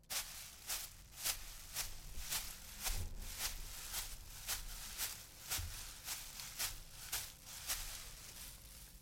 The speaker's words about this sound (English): Walking in undergrowth, made by rustling magnetic tape.